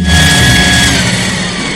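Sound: vacuum cleaner running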